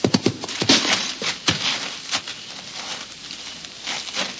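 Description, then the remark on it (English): Horse hooves of an approaching rider clop in an uneven rhythm over a steady hiss, the sharp strikes loudest early on and then settling into softer, scattered beats. No one speaks. “Listen. There's a rider coming this way.”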